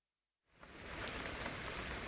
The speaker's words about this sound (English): Oh dear, it's raining again. Look at all that rain.